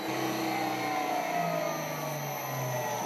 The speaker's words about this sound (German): gerade fülle ich jetzt hier in die Schmelze das Plastikgranulat ein. Das heißt, diese kleinen Plastikschnipsel werden reingeschmissen in den Trichter, dann in dieser Heizzone geschmolzen und vorne kommt dann so ein flüssiger Kunststoffdraht raus.